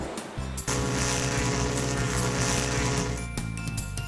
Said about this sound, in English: Boat's horn! Mm-hmm.